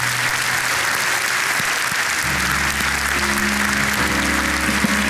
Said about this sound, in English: But before we do all that, would you just with a hand clap thank God for what He's teaching us?